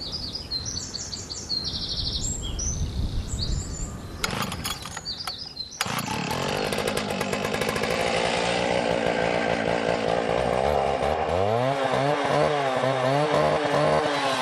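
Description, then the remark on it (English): Spring birds chirp and tweet in high bursts at Redwood Market Garden in Lurrah, North Tipperary, before a chainsaw roars in, its loud buzzing engine revving and wavering in pitch, drowning out the birdsong. “The sounds of spring cut in two by a consaw.”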